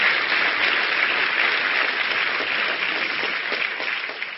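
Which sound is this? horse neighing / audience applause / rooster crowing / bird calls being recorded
audience applause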